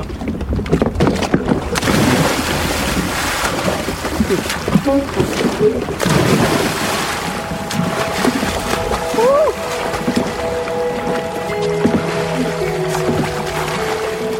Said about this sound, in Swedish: Kanonkulan gör han eftersom det är förbjudet att dyka.